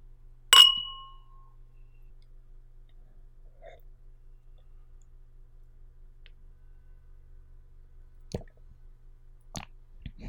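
A single bright clink of glasses touching in a toast, its high ringing tone fading over about a second, followed by quiet and a few faint, soft clicks near the end.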